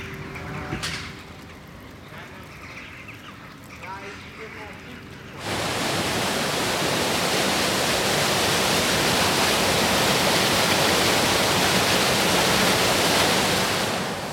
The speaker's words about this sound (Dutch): En ja, hij stroomt gewoon rustig. Het begint nu een beetje te regenen. Er vallen druppels in het water.